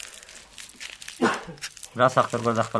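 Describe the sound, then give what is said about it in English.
A plastic bag holding raw, sticky opium crinkling and rustling as a farmer in an Afghan village pulls it off his windowsill, a burst of crackly noise lasting over a second, followed by a voice. “pulls a plastic bag off his windowsill, raw, sticky opium.”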